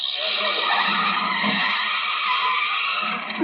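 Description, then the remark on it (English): A car brakes hard with a sustained, loud tire skid screeching across the whole moment, ending with a brief rising squeal as it comes to a stop. No voices. “Oh, and how do you stop this thing?”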